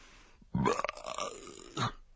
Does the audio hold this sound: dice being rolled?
no